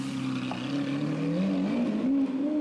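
The engine of a hotwired car roars steadily and loudly, its pitch climbing and dipping as it revs and accelerates hard, driven wildly by someone without a driving licence, with no voices over it.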